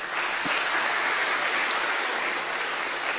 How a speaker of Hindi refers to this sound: Teachers बहने हाथ खड़ा करो, ये टीचर्स बहने भी आई हैं, तो इन सब के लिए भी ताली बजाओ।